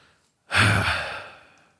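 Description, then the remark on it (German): A single long, exasperated sigh breathed out after a brief silence, starting sharply and trailing off softly over about a second. “Also ganz ehrlich, ihr hört mich gerade atmen und innehalten.”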